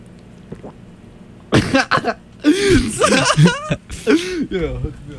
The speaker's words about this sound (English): And then I'd drink some of it. Very loud gulps.